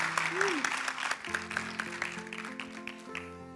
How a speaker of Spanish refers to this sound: Claro, denle un fuerte aplauso, claro que sí, gracias.